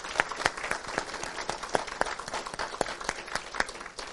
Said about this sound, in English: Let's just give a round of applause to the Lord for that.